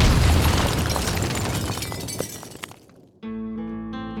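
A loud explosion of Stauffenberg's briefcase bomb in the conference room at the Wolf's Lair at 12:42. It bursts out with a deep boom and crackling, shattering debris that fades over about three seconds, followed by a sudden steady, humming tone.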